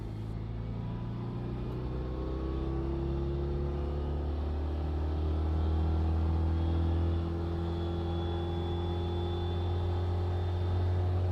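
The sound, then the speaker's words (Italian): A Citroën 2CV engine hums steadily while driving past groups of low houses and rural villages, a low droning rumble with shifting tones that rise and fall slightly over about eleven seconds, with no voices. “La due cavalli supera dei gruppi di case basse, dei villaggi rurali con il solito bar lungo la strada.”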